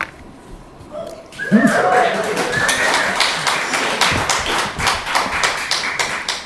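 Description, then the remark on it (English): A crowd at a socialist festival breaks into steady applause, many hands clapping in a dense, crackling patter that holds loud for several seconds, with a brief cheer or whoop rising near the start. “Claps for socialism at a socialist festival.”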